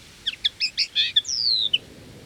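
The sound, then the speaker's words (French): A bird-call whistle sounds a quick run of bright, twittering chirps, then one long, gliding whistle that slides downward and ends with a short final peep. It is clear, with no talking. “C'est un sifflet pour appeler les oiseaux.”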